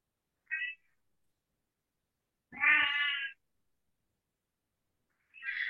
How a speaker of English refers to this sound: And the cat is saying, yeah, we do it.